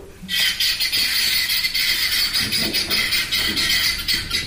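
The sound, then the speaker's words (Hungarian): A harsh, grating, rapid rattling call of a guineafowl repeats continuously in a ratchet-like rhythm, loud, with no talking. “Páva? Nem. Nem. Gyöngyúk? Úgy.”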